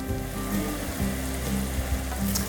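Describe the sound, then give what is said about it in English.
Venison breakfast sausage sizzles and crackles steadily in a pan, a continuous frying hiss with occasional pops and the soft scrape of stirring, no voices. “The first step we're gonna do is brown this venison breakfast sausage.”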